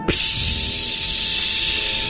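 An aerosol spray of cat repellent bursts on suddenly and hisses loudly and steadily for about two seconds, a bright, airy rush with no talking.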